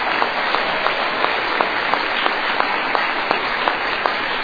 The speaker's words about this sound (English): I thank you for the applause, but the applause, I'm here because of the grace of God and the program of Alcoholics Anonymous.